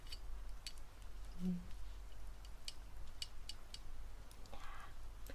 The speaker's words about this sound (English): Think I can put a pencil against the jar?